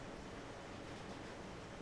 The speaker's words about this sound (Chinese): 怎么突然这么大的雨啊？